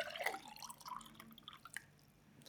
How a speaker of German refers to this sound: Apropos, ich schütte mir jetzt gleich mal, ich mache mir da mal ein Glas mal voll.